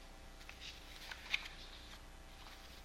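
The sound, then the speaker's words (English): Soft rustling of hymnbook pages being flipped while searching for a hymn sung earlier, a few quiet swishes and a small crisp tick midway, with no voices. “I was shuffling for something we sang earlier that goes right along those lines, but I can't remember which of the two or three hymns we sang that it was in, so I'll stop that search.”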